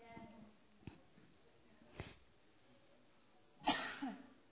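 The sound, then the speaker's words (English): A person coughs several times: two brief, soft coughs spaced apart, then a louder, harsher burst followed quickly by another near the end, with faint voice traces at the start. “How will I get the victory over this cough?”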